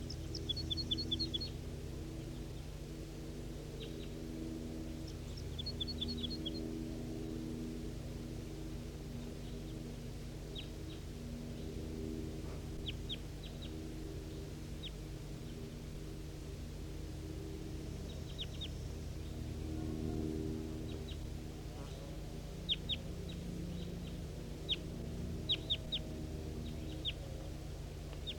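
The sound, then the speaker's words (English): Faint, scattered calls of wild birds somewhere up at the top of a hill, short high chirps in brief clusters, over a steady low rumble that runs throughout. No one speaks. “This is 5:03 now at 8:30, responding to wild birds somewhere up at the top of the hill.”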